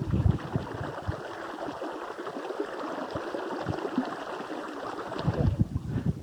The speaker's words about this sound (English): That is Cold Spring, a babbling brook, and very, very cold.